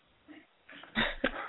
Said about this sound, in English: Oh, my Great Dane, you can hear that?